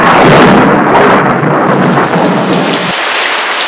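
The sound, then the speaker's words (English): A loud, continuous storm at sea: a dense roar of wind and pounding rain with a deep thunder rumble underneath that cuts off shortly before the end. No voices. “A sudden swell of the storm-tossed seas catapults a solitary figure onto the deck.”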